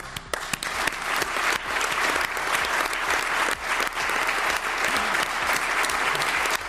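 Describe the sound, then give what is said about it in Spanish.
Sustained applause from a large crowd in the chamber of the Cortes de Aragón parliament, a long applause after a minute of silence in tribute to former president Javier Lambán, dense steady clapping that stays loud and even throughout without any voices. “pero al menos ha habido momento también para el recuerdo y el homenaje al expresidente Javier Lambán, con un minuto de silencio y un largo aplauso.”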